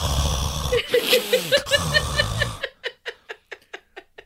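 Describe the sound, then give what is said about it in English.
Loud laugh-like vocal sounds, then a voice imitating heavy mouth breathing: a steady run of short, breathy huffs in quick succession. “like every 2 seconds you could hear Evelyn just heavily breathing”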